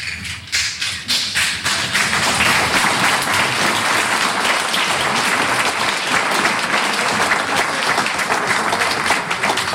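An audience bursts into applause, a few separate claps at first quickly swelling into a dense, steady roar of many hands clapping, loud, with no talking.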